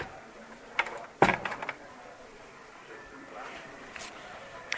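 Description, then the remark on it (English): A few sharp wooden knocks on a coaster-like piece with holes on a cabinet, one loud, followed by softer clunks of the cabinet door opening and shutting, with faint voices in the background. “You knock on it, and it sounds more like a knock on the door than an actual knock on the door. Knocks, knocks, opening, closing.”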